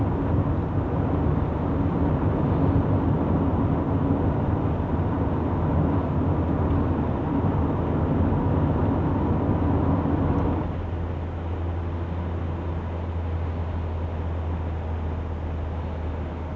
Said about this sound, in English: Gosh, suddenly a lot of traffic.